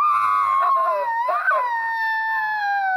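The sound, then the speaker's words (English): An 8-year-old child from London imitates an elephant trumpeting: one long, loud, high-pitched wail that wavers and rises briefly in the middle, then holds steady for about three seconds. “And this is my elephant sound.”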